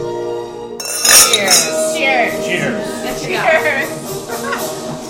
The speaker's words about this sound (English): And so with that, I say we give a toast and we begin.